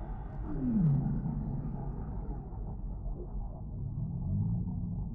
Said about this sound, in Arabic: تعيش حيتان الأوركا في عائلات صغيرة، وتتواصل فيما بينها باستخدام لهجاتها الصوتية.